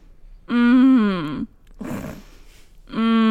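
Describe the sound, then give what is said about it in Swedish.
A voice imitates the drawn-out, groaning exhale a sick sleeping person makes instead of snoring, a loud voiced moan about a second long, followed by a breathy noisy breath and the start of another groan. “Alltså istället för att snarka så på utandningen så gör han en röst så här.”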